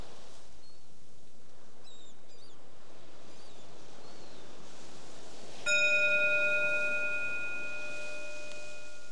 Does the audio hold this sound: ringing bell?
yes